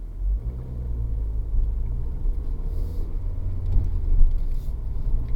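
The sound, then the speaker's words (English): A 1.6 Honda Civic Executive with a manual transmission and electronic management drives along with a steady low engine and road rumble; the drone shifts slightly partway through as the car changes up a gear. No one speaks. “You feel a little when the car starts to change gear”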